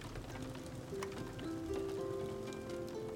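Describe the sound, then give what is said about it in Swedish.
Steady rain patters continuously outside a window, with scattered individual drops ticking sharply through the soft wash, while gentle sustained harp tones ring quietly beneath it. No one speaks. “Regnet strilade utanför fönstret när Esmeralda äntligen började berätta och spela på sin harpa.”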